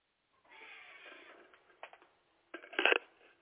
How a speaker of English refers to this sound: There's a cat fight outside. Yeah, wanted to make sure it's not one of ours.